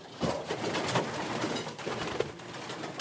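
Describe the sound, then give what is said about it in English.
Pigeons coo softly and continuously in a pigeon loft, several birds overlapping in a low, burbling murmur with faint rustling and wingbeats, no one speaking. “He's checking pigeon droppings.”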